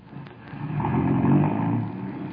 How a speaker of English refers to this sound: Driver, slow down. That car's turning in at that estate.